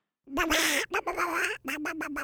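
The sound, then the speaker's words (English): A duck quacks loudly and insistently, a rapid run of harsh, nasal calls, one long and the rest short and choppy, close up with no talking. “You have to let go, Charles quacked, as loudly as he could.”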